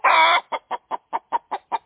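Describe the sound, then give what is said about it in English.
A chicken lets out a loud, drawn-out squawk, then a rapid, evenly spaced string of seven sharp, agitated clucks, with no other sounds. “it's time for Coop Talk with Henrietta”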